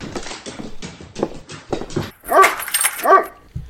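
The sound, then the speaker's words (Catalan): A dog named Bruc, being taken out for a walk, lets out a quick run of short barks, then two loud, high-pitched whimpering yelps about a second apart, with no voices. “Ai, Bruc, no saps la sort que tens de ser gos.”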